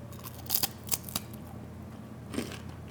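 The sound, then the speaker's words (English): A light, delicate, meringue-like cookie is broken apart, giving a few quiet, brittle crackles and snaps at irregular moments, with a final crisp snap after a pause. No one speaks. “That's what it sounds like if you break it apart.”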